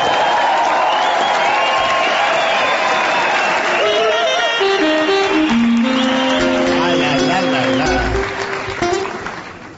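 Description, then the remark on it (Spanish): A crowd applauds and cheers loudly and steadily throughout, with whistles and shouts rising over the clapping and a few tonal notes sounding through the noise, welcoming a trumpeter onto the stage. “Señoras, señores, extendemos el aplauso para recibir en este escenario a la plateada trompeta”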